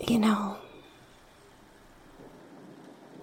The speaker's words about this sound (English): this rain is very relaxing to listen to